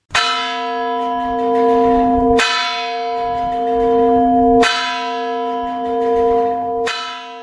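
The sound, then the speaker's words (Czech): Heavy bells of the Cathedral of Saints Peter and Paul in Brno toll loudly at a slow, steady pace, striking noon at 11 o'clock in the Brno way: four deep strikes about two seconds apart, each ringing out and blending into the next. No voices are heard. “To zvony katedrály svatého Petra a Pavla právě odbíjejí poledne, po Brněnsku v 11.”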